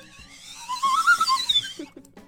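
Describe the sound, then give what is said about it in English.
A warbling whistle sound effect, called the County Converse Memorial Whistle, rises and wavers in pitch for about a second and a half, fairly loud, then cuts off, leaving a few soft knocks. “County Converse Memorial Whistle.”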